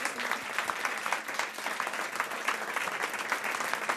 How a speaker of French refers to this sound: Les applaudissements, s'il vous plaît.